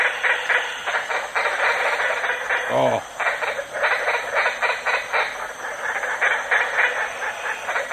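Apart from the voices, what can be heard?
green tree frog calling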